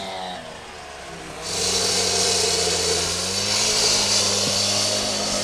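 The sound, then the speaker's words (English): Heavy machinery breaking up the concrete of a dam on the Ompompanoosuc River: a steady diesel engine drone, joined after a second or so by a loud, continuous harsh clatter of hammering that persists, with no voices. “They've been working all morning, hammering away at the concrete.”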